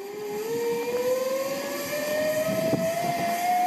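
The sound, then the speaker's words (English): An airplane drones overhead with a steady, loud engine roar and a whining tone that slowly rises in pitch as it passes. No one speaks. “Is it a bird? Is it a plane?”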